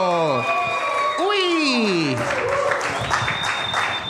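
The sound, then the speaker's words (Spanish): An open mic audience bursts into steady applause, dense clapping lasting several seconds, with shouts and whoops rising over it early on before the clapping carries on alone. “Fuerte aplauso para José el Monstruo.”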